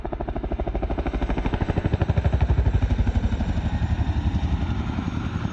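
A helicopter's rotor chops in a rapid, steady thudding beat over a broad engine roar as it makes a fly-past at Aldershot Military Cemetery on a cold, wet November evening and zooms off into the distance, holding fairly loud throughout and easing only slightly toward the end, with no voices.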